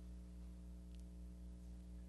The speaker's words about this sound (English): There's a hum from electronics.